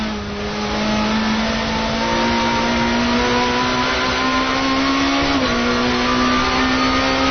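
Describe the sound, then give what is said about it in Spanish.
An Alfa Romeo car engine starts and drones loudly, its steady tone climbing gradually in pitch as it revs, then dipping briefly near the end before holding on. No one speaks. “A ver, vamos a ver si somos capaces de poner el Alfa en marcha.”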